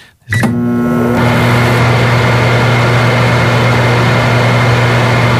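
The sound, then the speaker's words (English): A microwave oven in a studio starts with a click and then runs with a steady, loud electrical hum and drone that holds constant, with no talking over it. “This isn't going to stink out the studio when we open the microwave door, is it?”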